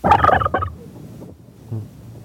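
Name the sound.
turkey gobbling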